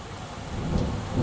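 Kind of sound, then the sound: nature, thunderstorm with heavy rain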